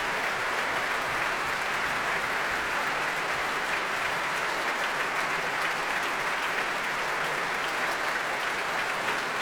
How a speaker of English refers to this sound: Here they come again, Stephen Osborne and Paul Watkins, who brings the Ulster Orchestra to their feet to acknowledge the cheers of the promenaders.